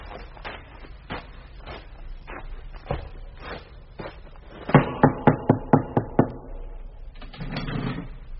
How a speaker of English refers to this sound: Who knocks at the traitor's gate, friend or foe? Friend. Advance, friend, and be recognised.